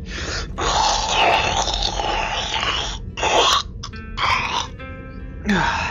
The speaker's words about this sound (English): I can't believe you all sniffling away like school children.